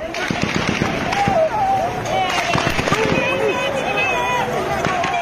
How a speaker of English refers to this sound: Gunshots in PNG's third largest city of Mount Hagen in the Highlands region.